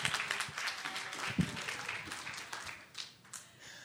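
An audience claps in a dense, steady patter of many hands, lasting a few seconds and fading slightly toward the end, heard from a moderate distance with no talking over it.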